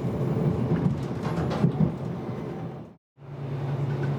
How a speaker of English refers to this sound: It's a strange, slightly eerie sort of place to be rolling past. Very bendy track as well, the train sort of snaking out before of us on this single line, getting higher and higher each time.